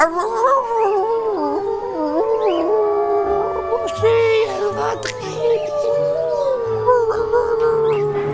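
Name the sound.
wolves howling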